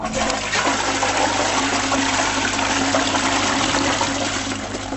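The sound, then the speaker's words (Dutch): A toilet flushes with purified water collected in a basin, a loud, steady rush of water that fills the whole few seconds before easing off slightly at the end, with no voices over it. “En er komt schoon water uit en dat schone water gaat naar een bassin en daar spoelen we de toiletten mee.”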